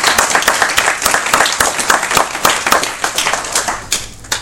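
A crowd applauds steadily, many overlapping hand claps forming a dense, crackly patter that stays fairly loud and even for several seconds with no talking.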